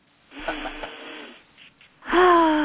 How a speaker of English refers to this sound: Okay, are we ready? Yes, we are. All together now. We're sniffing in the pony scent,